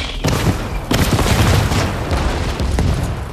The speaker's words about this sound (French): Le canon 75 en fait un gros tir de barrage.